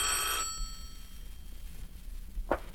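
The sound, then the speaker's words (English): A telephone bell rings in one short, bright, metallic burst that cuts off abruptly, followed by near silence and a faint brief knock a couple of seconds later. “The phone.”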